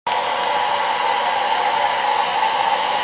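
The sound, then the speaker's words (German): A hair dryer blows steadily, a loud, constant whooshing roar with a faint whine, running without pause for the whole few seconds and no voices. “Da war gerade ein kurzer Ausschnitt. Wir sind gerade noch am Föhn”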